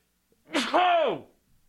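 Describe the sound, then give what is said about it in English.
A single loud sneeze: a sharp breathy burst that runs straight into a drawn-out voiced 'choo', lasting under a second, with no one talking. “Hang on, I got to sneeze.”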